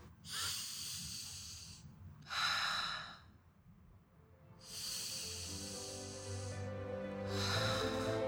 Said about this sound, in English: Just count your breaths. Count 10 breaths in and out, and that will really help. Slow your heart rate down, calm yourself, and be able to just think about that breathing because that's the only thing that you need to be doing in that moment.